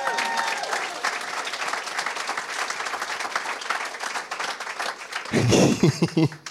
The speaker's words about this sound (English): Yeah, you can applaud for that game too.